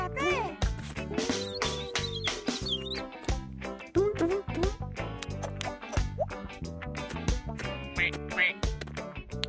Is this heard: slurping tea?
no